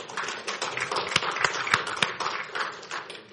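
Audience applause: a dense, steady patter of many hands clapping for a few seconds, with a handful of sharper, louder claps standing out and the clapping thinning toward the end.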